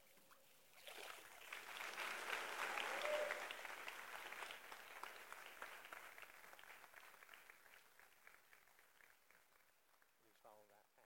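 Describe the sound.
A church audience breaks into loud, sustained applause after a baptism that swells within the first few seconds, then gradually thins and fades, with a voice starting to speak as the clapping dies away.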